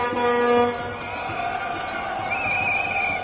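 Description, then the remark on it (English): Truck horns, sounded by drivers in support of the union at a utility workers' demonstration in front of Con Ed headquarters on Irving Place, blare in overlapping, sustained tones over a noisy crowd, one higher horn rising in toward the end, with a busy street rumble underneath throughout. “All the truck drivers here seem to be honking their horns in support of the union.”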